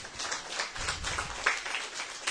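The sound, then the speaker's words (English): A crowd claps steadily for a couple of seconds, a dense patter of many hands with a few sharper individual claps standing out, moderately quiet and with no voices. “Let's give them a clap.”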